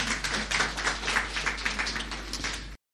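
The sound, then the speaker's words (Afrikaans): A crowd applauds to welcome guest speakers who lead Grandparenting South Africa, many overlapping claps forming a steady, dense patter that holds for nearly three seconds before stopping abruptly. No one speaks. “Kom ons gee vir hulle net 'n welkom aan 'n klap.”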